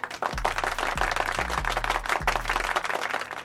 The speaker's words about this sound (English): Nance with 10 points, 12 rebounds, 5 assists. He gets a round of applause.